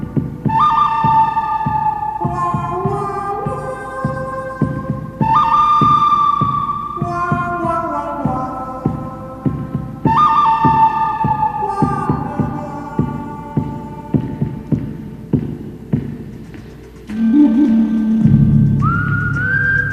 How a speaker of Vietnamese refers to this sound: Gõ vài nốt sáo dọc và xa xa là tiếng sói hoang đồng cỏ.